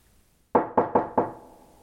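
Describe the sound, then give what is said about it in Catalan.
Four firm, loud knocks on a wooden door in quick succession, the last one slightly delayed, with a short ring of resonance afterward; a soldier knocks on the door of a house. “I va trucar a la porta.”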